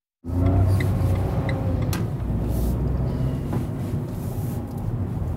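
A car drives along steadily, its engine and road noise forming a continuous low rumble heard from inside the vehicle, with faint rattles and clicks now and then.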